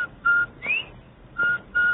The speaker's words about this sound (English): Everybody loves the cheery whistle of a Bob White.